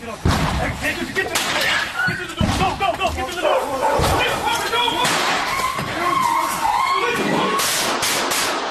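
Dogs bark and yelp amid a chaotic, loud scene of shouting voices, sharp bangs and slamming impacts, continuous with no quiet moments, as police with a search warrant break into a family's house in Columbia, Missouri.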